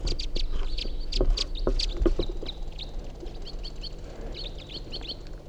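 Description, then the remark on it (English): White-winged crossbills, including a male perched in a tree just above a net, give a busy run of short, high chirping calls, several birds overlapping at first and then thinning to scattered chips over a low, steady rumble. “They're white-winged crossbills.”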